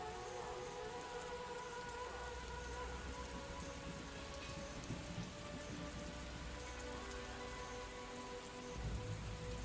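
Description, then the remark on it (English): A steady, dense rain sound effect from a video game patters continuously on a hard surface, loud, with faint sustained tonal hums beneath it and no voices. “Yeah, the rain effect does feel like Metal Gear Solid too.”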